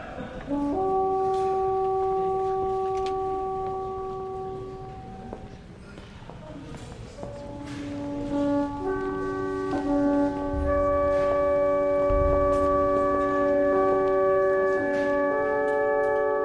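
Virtual recreations of the large curved Roman cornu horns of Pompeii, worn around the elbow and shoulder, blow long, sustained brassy notes, first a few tones together, then a fuller chord of overlapping pitches swelling in, loud and droning with a rough low rumble beneath.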